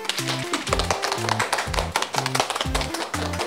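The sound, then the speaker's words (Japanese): A burst of applause for a correct answer in a quiz on sorting garbage and plastic bottles: dense rapid clapping that keeps going for a few seconds, over a repeating pattern of short, low stepped tones. “大正解です。 拍手。”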